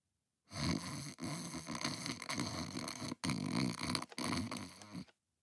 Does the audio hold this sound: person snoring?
yes